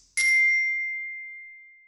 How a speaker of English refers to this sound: Now, listen to the text carefully and fill in the words that are missing when you hear the bell again.